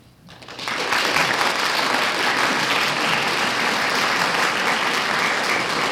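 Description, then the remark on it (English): Sustained audience applause swells up within the first second into a dense, steady wash of clapping that holds at full volume throughout, with no voices standing out. “McIntosh, the gratitude of your audience expressed itself not only in the applause you've heard, but in wanting you very much to stay with us and answer questions.”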